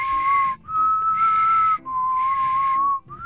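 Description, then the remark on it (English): A person whistles long, steady notes, holding each tone for about a second with brief breaths between them. The pitch barely shifts, and no one talks. “I can whistle like this too.”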